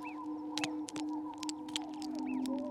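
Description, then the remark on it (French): A pebble rolls down a slope, making a string of irregular clicks and light knocks. A steady low drone and a few faint high chirps sit in the background. “Un caillou roulant le long d'une pente.”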